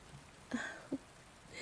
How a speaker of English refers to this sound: Just listen to the sound of the rain.